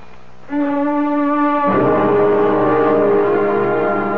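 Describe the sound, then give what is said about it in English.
An alarm signalling time for a woman's pill goes off with a loud, steady buzzing tone that kicks in after a brief pause, then turns harsher and denser partway through and keeps blaring to the end. “I heard the alarm, Margaret. I heard it.”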